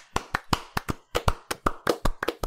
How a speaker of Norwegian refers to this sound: Det er …. Det må jo være. En liten applaus.